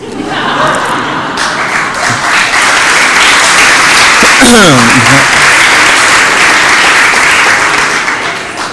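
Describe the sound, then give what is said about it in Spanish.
A crowd applauds loudly and steadily throughout, dense clapping filling the space, with a brief voice cutting through partway. “¿Me aplaudís para que me vaya?”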